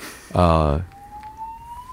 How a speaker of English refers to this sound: Fire alarm? I think so. Let's wait for that. Is it a real fire?